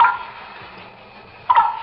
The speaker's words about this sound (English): I hear water. It's water. Dolly, don't go out there. It's water. It's dripping off that big leaf.